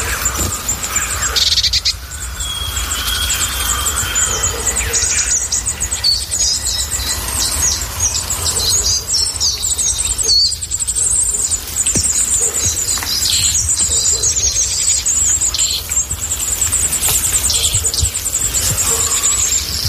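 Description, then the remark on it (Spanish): A dense outdoor chorus of wild birds in falling snow: carrion crows, a robin, a raven, red-billed choughs, a great tit, spotless starlings, a flock of long-tailed tits and a coal tit. Overlapping chirps, whistles and calls sound over a steady hiss of background ambience, with no voices. “Vamos a escuchar la nieve cayendo y también muchas aves, porque de fondo podrá escuchar el oyente cornejas, petirrojo, cuervo, choba pitirroja, carbonero común, estornino negro, bando de mitos y un carbonero garrapino.”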